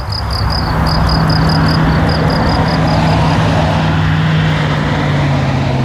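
truck engine running

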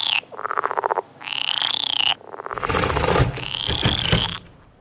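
frog croaking

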